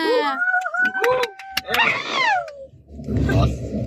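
A child screams loudly in a high, wavering pitch, the cry rising and sliding over a couple of seconds before giving way to a rough burst of noisy clatter.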